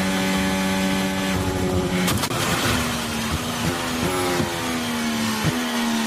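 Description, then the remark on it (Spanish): Carlos Sainz's Formula 1 car at the Las Vegas Grand Prix: a high, steady engine whine is broken by a sudden loud metallic bang as it hits a loose manhole cover on the circuit, then the engine keeps droning at a slightly shifting pitch. “Y resulta, mira, la alcantarilla ha sonado así, en el coche de Carlos Sainz.”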